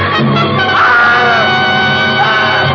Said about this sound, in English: Then she threw up her hands and shrieked.